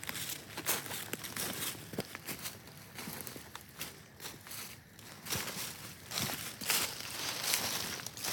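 Paper towel being torn from a roll and crumpled outdoors among leaves, used to mark a speck of blood on a trail, a run of dry crinkling and rustling bursts with sharp tearing snaps, steady and busy throughout with no talking.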